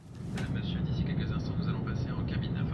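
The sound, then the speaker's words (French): A steady low-frequency roar fills an airliner cabin on a flight to Buenos Aires, Argentina, with faint indistinct voices murmuring underneath throughout. “Me voici dans l'avion pour Buenos Aires.”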